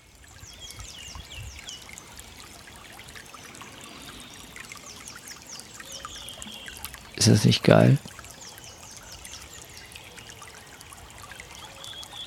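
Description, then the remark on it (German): The Heisterbach, a small brook near the Drachenburg, babbles steadily over stones, a soft continuous trickle with birds chirping faintly above it; a voice speaks briefly near the middle, then the water carries on alone. “Der Heisterbach plätschert.”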